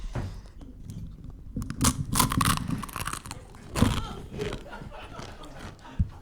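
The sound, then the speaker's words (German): Crunchy food, a waffle sprinkled with the contents of a small packet, being chewed up for ASMR: a run of sharp, crackling crunches in bursts of bites, fairly loud, with low chewing sounds between them and no talking. “Und jetzt hören Sie bitte, können Sie mit ASMR hier.”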